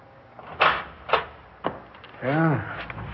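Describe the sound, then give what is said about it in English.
A door opens: three sharp knocks or latch clicks spaced about half a second apart, then a drawn-out, rising-and-falling creak of the door swinging, moderately loud. “Please open the door, Mr. Jones.”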